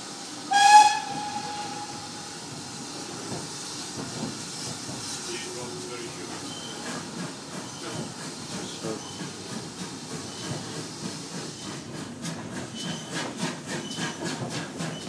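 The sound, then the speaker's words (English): A short, loud steam whistle blast near the start, blown for Napper's Halt, the shortest platform in the country, as the steam train passes through without stopping. It is followed by a continuous hiss of steam and the steady, rhythmic rumble of the moving train that grows more pronounced toward the end. “That whistle blow was for the shortest platform in the country called Napper's Halt.”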